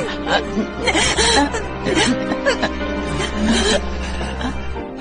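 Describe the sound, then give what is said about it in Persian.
A person whimpers and sobs in shaky, breathy bursts throughout, steady, with a low constant hum underneath and no clear words. “تو چرا گریه میکنی یانگ سیل؟ به خاطر این مزخرفات گریه نکن. گریه نکن.”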